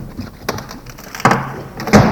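A door opens with a few hollow clunks and a brief rattle, sharp knocks spaced about a second apart, with no talking.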